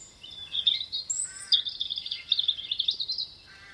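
A robin sings a string of high, thin, warbling phrases with quick trills, delivered continuously, with no voices and only faint background hiss.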